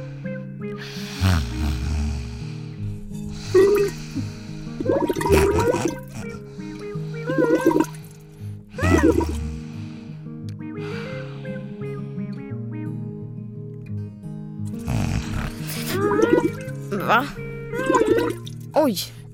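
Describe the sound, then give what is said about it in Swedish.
Wet, gurgling bubbling from a goldfish comes in a few short bursts over a low, steady hum, with vocal sounds mixed in, moderately loud. “Bubbla inte så där din guldfisk. Du skräms.”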